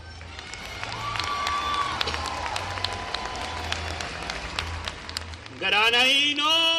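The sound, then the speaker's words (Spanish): A crowd in Granada claps steadily for the Three Kings from the Orient, many hands blending into a dense, crackling roar for several seconds, before a loud, high shouted voice rises over the applause near the end. “Por tanto, quiero pediros un aplauso monstruoso para los reyes hermosos que desde Oriente han venido.”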